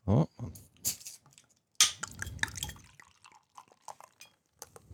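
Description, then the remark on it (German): Frankenheim beer splashes and trickles into glasses in short irregular bursts, with a few bright clinks of glass and soft dripping between the louder gurgles. “Vielleicht möchtest du es uns schon mal eingießen?”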